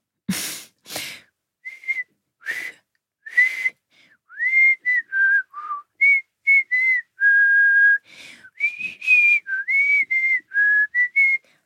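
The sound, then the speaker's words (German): A person whistles a melody, a string of short pitched notes with gaps between them, starting with a few breathy attempts before settling into a clearer tune. No talking. “Dieses, also ich kann nicht so gut pfeifen. Ich kann es mal versuchen.”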